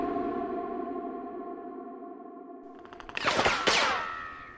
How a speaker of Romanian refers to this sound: Ploaie de gloanțe, băieți, fugi!